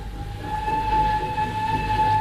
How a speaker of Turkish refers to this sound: Bu San Antonio treni mi? Saat kaç? 8:15'i biraz geçiyor. Hayır, bu San Antonio'dan önce kalkan yük treni.